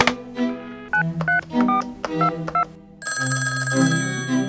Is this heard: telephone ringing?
yes